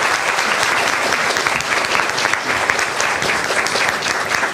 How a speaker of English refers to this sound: Can I have one more round of applause for our speakers and our sponsors, please?